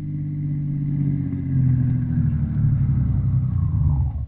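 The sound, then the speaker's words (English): A car engine rumbles steadily, its low drone easing down in pitch toward the end as the car draws up and stops in front of a house. No one speaks. “we find Dr. Christian and Roy Davis, the druggist, in the doctor's car drawing up in front of Windy Smith's house”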